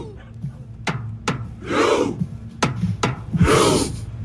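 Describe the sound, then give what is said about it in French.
About a hundred Norwegian fans in Boston, lined up in a square in front of the city's port, perform the Viking Row, imitating Viking longship rowers in rhythm: paired sharp thumps followed by a loud, breathy collective exhale, the cycle repeating steadily about every second and a half. “Et oui, le Viking Row, c'est une célébration qui consiste à imiter les rameurs des drakkars de Vikings.”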